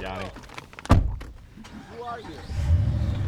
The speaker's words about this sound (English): As soon as the clock hits one, they hop in their truck and speed back towards the Porcupine Mountains.